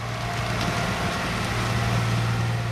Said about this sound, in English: Behind where he's standing, a massive truck overflowing with exposed tree roots and mounds of earth rolls past, clearing the tracks after a recent landslide.